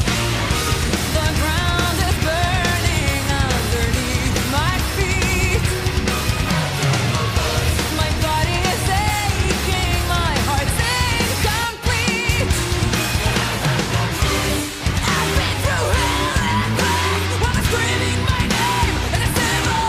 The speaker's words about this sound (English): your song …, which is I believe another recent release, correct?